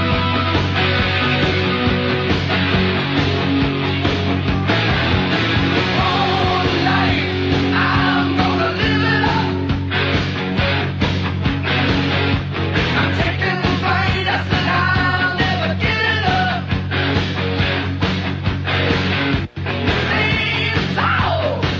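A heavy metal song plays loud and continuous in a countdown of the top metal songs of all time, with dense distorted guitars, pounding drums and shouted vocals, cutting out for an instant near the end before resuming.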